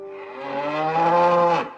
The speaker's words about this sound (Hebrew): איזו עוצמה של קול יש לזמיר, קרא בהתפעלות אחד היועצים כששמע פרה גואה מרחוק. זאת פרה, צחקה המשרתת.